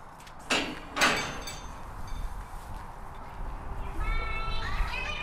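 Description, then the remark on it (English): Young children of a junior infants class chatter indistinctly in their primary school classroom in Stillorgan, Dublin, Ireland, during a Zoom call to a farm, with two brief knocks or clatters early on and higher-pitched little voices rising toward the end. “This is the sound from a junior infants class at St. Raphael's Primary School in Stillorgan in Dublin.”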